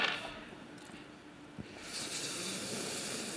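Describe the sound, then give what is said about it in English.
A big pan full of ten-sided dice is rolled: after a single soft knock, a dense, hissy rattle of many small dice swirls on steadily, fairly quiet and with no voices. “Yeah, roll a big pan full of dice.”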